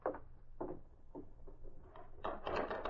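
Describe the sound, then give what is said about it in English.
A door bursts open with a series of wooden thuds and rattles, a few spaced knocks followed by a busier clatter near the end, moderately loud, as a man in a Northwest Mounted Police uniform storms through with his gun drawn. “A man wearing the uniform of the Northwest Mounted Police stormed through the door, his gun drawn.”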